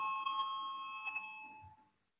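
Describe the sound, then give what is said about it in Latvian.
A parliamentary voting bell chime sounds on its own before a vote on a proposal, two clear strikes a moment apart, their bright ringing tones sustaining and then fading away within about two seconds. “Lūdzu zvanu, balsosim par sesto deputātu Pimenovu iesniegto priekšlikumu.”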